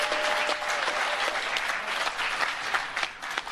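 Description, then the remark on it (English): An audience claps steadily for a few seconds after the announcement that United States Space Force members will be known as Guardians, a dense, continuous patter of many hands with some sharper individual claps standing out, and no talking over it. “Listen to how they laugh, and I mean, listen to how they clap their hands.”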